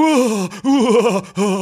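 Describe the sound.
A man lets out three loud, wavering groans in quick succession while taking an ice-cold shower, broken by short gasping catches of breath, with no words spoken and no clear water noise behind them.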